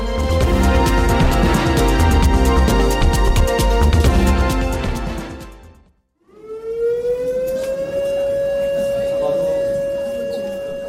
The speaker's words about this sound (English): A series of drills took place Thursday as part of the annual Civil Defense Ulchi exercise, including a 20-minute nationwide evacuation drill simulating an air raid. When the air raid siren sounded at 2 p.m., citizens in the streets fled to some